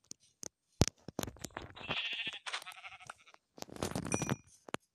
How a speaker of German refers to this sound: Ja, und das ist ein Schaf, das kann ich mir auch noch.